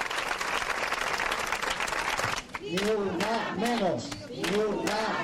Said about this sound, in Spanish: Una salva de aplausos y gritos contra la violencia machista rompían los 5 minutos de silencio celebrados en San Cristóbal de Los Ángeles en memoria de Joester, la mujer dominicana asesinada a manos de su expareja.